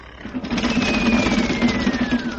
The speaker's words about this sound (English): Did you hear thunder? Oh, that's snoring. They have a man sleeping in that bed.